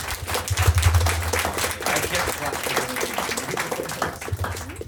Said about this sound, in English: I said, I can't clap or else my microphone makes noises, but I was clapping.